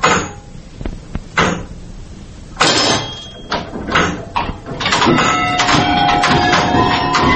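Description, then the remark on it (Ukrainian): Small wooden doors under the dome of a bell tower at the Lavra in Kyiv are pulled open into an old clock mechanism, with knocks and clunks followed by a drawn-out, squeaky creak of stiff hinges and rattling wood. “під самою банею Іван Федоряченко розчиняє дерев'яні дверцята, і ми опиняємося всередині старовинного годинникового механізму”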